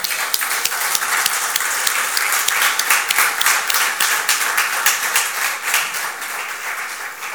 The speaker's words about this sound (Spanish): ¿Qué tal si le damos un aplauso al nombre de Jesús?